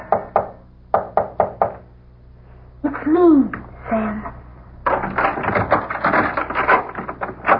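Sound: knocking on a door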